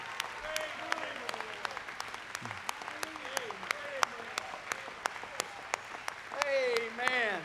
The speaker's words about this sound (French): They're clapping for horse races. We're clapping because we're one of them. Ils applaudissent pour les chevaux, mais nous applaudissons pour lui.